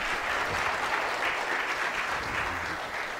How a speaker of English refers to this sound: And yeah, you can clap.